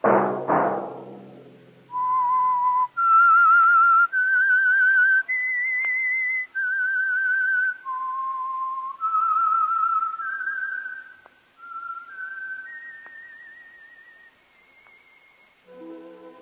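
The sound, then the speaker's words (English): A lone whistler carries a slow, sustained melody of long held notes rising and falling, clear, after a brief burst of sound at the start; the whistled theme signals the Signal Oil radio program The Whistler, on Mondays at 8. “That whistle be your signal for the Signal Oil program, The Whistler, each Monday at 8.”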